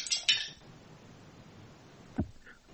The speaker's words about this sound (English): Find yourself there's a plate of dishes on the stairs. Crash.